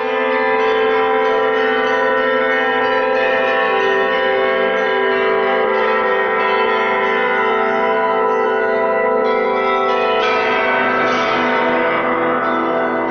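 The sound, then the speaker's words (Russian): Church bells of the Kolomenskoye museum, played by the museum's bell ringer, ring loudly and continuously, several bells overlapping into a dense, shimmering wash of tones that sustains throughout, with no voices present. “Александра Жихарева, звонаря музея Коломенское, колокольного мастера, изобретателя, записала Тамара Левенкова.”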